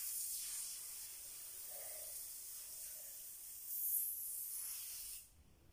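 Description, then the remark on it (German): A can of spray adhesive hisses in one long, steady burst lasting about five seconds, swelling briefly louder near the end before cutting off abruptly. Fairly loud, with no talking. “Also, meine persönliche Empfehlung ist trotzdem mein Sprühkleber.”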